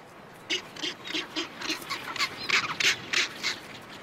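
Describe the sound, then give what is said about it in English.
A rockhopper penguin colony calls in a steady run of harsh, raspy squawks, about a dozen quick bursts in rapid rhythm that grow a little louder partway through, with no voices. “A stream of overworked penguins depart for the sea.”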